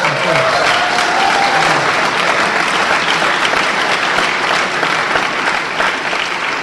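An audience bursts into steady, loud applause, a dense wash of clapping that holds evenly for several seconds with a faint murmur of voices underneath.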